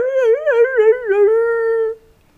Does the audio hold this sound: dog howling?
yes